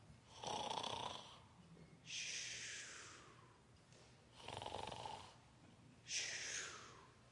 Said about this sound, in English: So Ruth watches from a distance and waits until Boaz is sound asleep. Maybe she listens for a consistent snore coming from Boaz's bed.